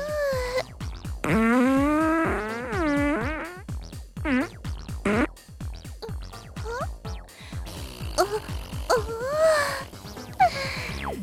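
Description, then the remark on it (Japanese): A voice imitates a rapid series of farts during a butt-shaking fart dance: buzzy, pitch-bending bursts in uneven bursts, some drawn out, others short and sputtering, loud and continuous for several seconds. “連続おなら発射。”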